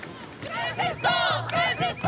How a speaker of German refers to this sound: In der Nähe demonstrierten vor Anpfiff Hunderte gegen das Spiel und für Palästina.